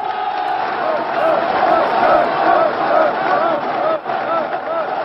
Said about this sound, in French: La foule applaudit, une foule de 100 000 personnes, triées sur le volet par peur de terrorisme, mais aussi pour éviter que les enregistrements des discours soient accompagnés de sifflets.